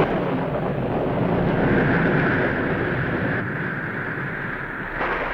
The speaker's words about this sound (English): Without warning, the pillar of fire sent forth flashes of lightning. Thunder peals, torrents of rain descended. The very earth trembled and shook.